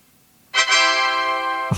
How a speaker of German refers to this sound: Das war hochfahren. Also hochgefahren haben. Nee, runterfahren. Was die alles für Sounds haben hier. Das war runterfahren XP.